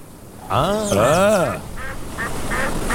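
Ducks quack: one long, wavering nasal call, then a series of short, evenly spaced quacks that continue to the end over a steady background hiss.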